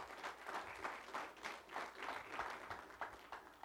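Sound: audience applauding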